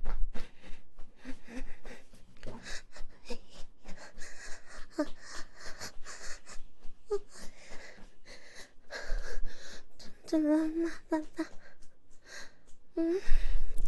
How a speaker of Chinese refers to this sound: 爸爸怎么在大喘气了呀？是不舒服吗？